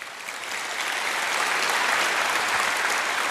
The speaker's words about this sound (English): A warm round of applause, please.